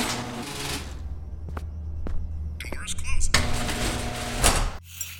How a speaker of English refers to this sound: Doors open.